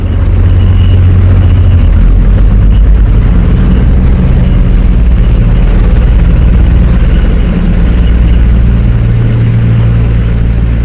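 A steady, loud low-frequency rumble of heavy combat vehicle engines idling in the hangar of the ship Mistral as they are unloaded. A continuous droning hum with slight fluctuations and no voices.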